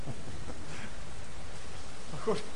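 rain falling

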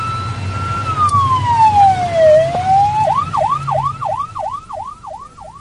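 emergency vehicle siren

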